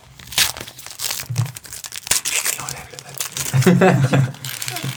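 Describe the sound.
Loud crinkling and ripping of paper wrapping being torn off a gift, a comic book, during an ASMR-style unboxing: a continuous run of rustles and sharp tears, with brief murmured voices underneath.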